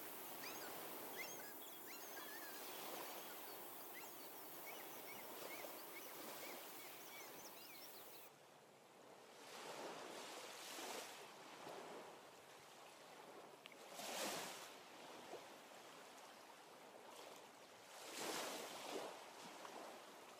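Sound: ocean waves and surf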